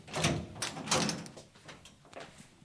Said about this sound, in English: So I'll just unlock the door.